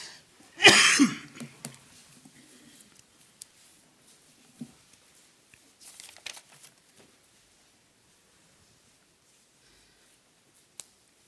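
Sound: coughing and throat clearing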